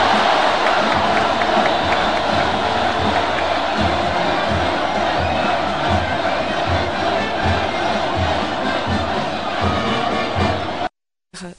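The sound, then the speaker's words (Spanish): A huge crowd in Cuéllar roars and shouts together the festive battle cry "Cuellaranos, a por ellos" to open the fiestas in honor of Nuestra Señora del Rosario, with cheering voices blending into a dense wall of noise before cutting off abruptly near the end. “Así explotaba Cuéllar en fiestas con ese grito de cuellaranos a por ellos para iniciar las fiestas en honor a Nuestra Señora del Rosario”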